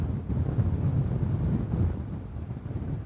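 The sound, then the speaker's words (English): Heavy, continuous wind from Hurricane Laura roars and buffets the microphone in Lafayette, Louisiana, a dense low-frequency rumble with surging strong gusts throughout, loud with no voices. “And in the last half hour or so, we're getting some of the strongest wind gusts we've had since the bulk of the storm came through overnight.”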